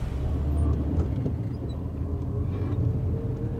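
A car rumbles along a potholed gravel road in the middle of Haiti's capital, its low engine drone steady with scattered knocks and rattles from the uneven surface, no voices.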